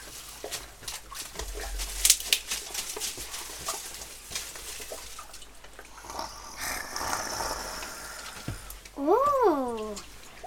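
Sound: rustling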